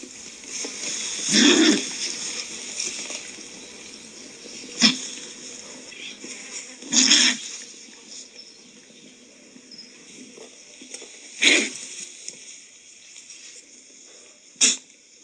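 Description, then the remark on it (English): A condor gives a series of about five breathy hisses and sharp snorts, spaced irregularly over a quiet background, some drawn-out and rasping, others short, explosive bursts. “So condors generally are silent because they don't have these vocal organs, but they can have a variety of hisses and snorts, especially when they're defending nesting sites.”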